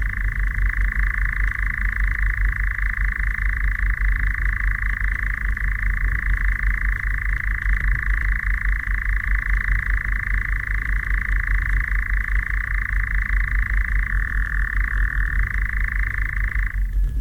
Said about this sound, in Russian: Темнело. Затянул свою ночную песню Козадой.